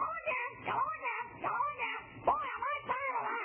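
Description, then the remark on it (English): A parrot squawks again and again, four or so rising-and-falling, nasal, meow-like cries in quick succession, fairly loud, with no talking over them. “That parrot's a little fresh there.”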